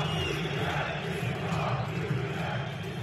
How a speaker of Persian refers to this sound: حکومت استعفا بده. ده ها هزار نفر در یک مسابقه لیگ برتر در استانبول فریاد می زنند. شعاری که در بسیاری از بازی ها در سراسر کشور تکرار می شود.